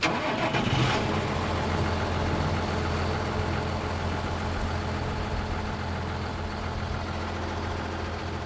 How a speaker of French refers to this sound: Là, on entend le tracteur qui passe, du voisin.